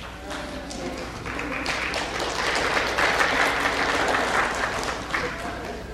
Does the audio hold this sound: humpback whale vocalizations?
no